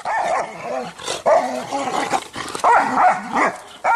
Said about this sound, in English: If you search YouTube, you can easily find scenes like this. Dogs fighting.